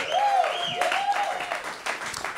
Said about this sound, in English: Hell yeah. Clap it up for YoDelta.